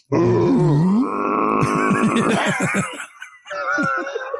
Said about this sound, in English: Every time. The fucking foghorn sound. Every time.